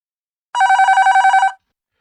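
A telephone bell rings once in a single loud burst of about one second, a rapid metallic trill with about a dozen pulses, surrounded by silence.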